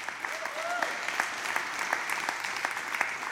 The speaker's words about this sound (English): I'm excited that 95% of you are clapping, but I'm not aloof that there may be the 5% cynical person.